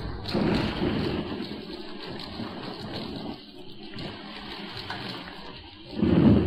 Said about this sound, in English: A sudden electrical storm sweeps over the weird island as Mrs. Gregory, Jerry, and Joan huddle in the radio cabin on the yacht.